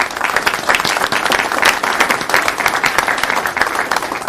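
A room full of people claps steadily, a dense, continuous patter of many hands at close range, sustained without pause and with no talking over it.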